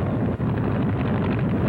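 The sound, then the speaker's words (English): A training airplane's motor roars steadily on a training flight, a loud, dense, low rumble that holds without a break and with no voices over it. “Next comes the training flight, so let the motor roar.”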